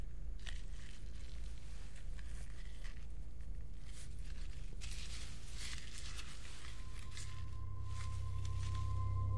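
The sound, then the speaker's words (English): Crunchy chewing sounds as a woman chews a piece in her mouth, repeating in an uneven rhythm over a steady low hum. No one speaks. “She puts a piece in her mouth and chews.”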